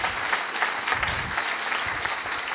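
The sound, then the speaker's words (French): Steady applause from an audience for the speakers at an event in Paris, a dense, even patter of many hands clapping at a moderate level without pause, with no voices standing out. “D'abord merci aux intervenants, vous pouvez encore applaudir.”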